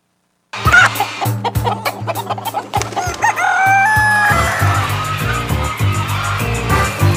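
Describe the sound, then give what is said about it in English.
A dense chorus of many chickens clucking and squawking at a poultry show, with roosters crowing over the top, loud, the racket building and continuing without pause. “It's like the Westminster of the chickens. All the best breeders are here. They all bring their best birds.”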